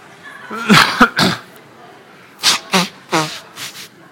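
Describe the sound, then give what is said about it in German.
Someone blows their nose: a cluster of sharp, noisy blasts, then a short pause and several more forceful snorting bursts in quick succession. “Ja, ich musste mir mal die Nase putzen, war eine gute Gelegenheit.”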